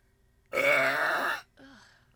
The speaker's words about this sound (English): One more time. Oh, gosh. The world's loudest burp by a woman.